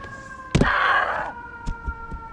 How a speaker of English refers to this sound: These sirens are here to take Nicole away. She's deceased.